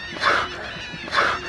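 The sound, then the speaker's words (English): A female wild dolphin breathing during a veterinary health check in the water, as two loud, breathy bursts with a slightly whistling, tonal edge, separated by about a second of quieter background. “The dolphin's breathing is one of the loudest sounds.”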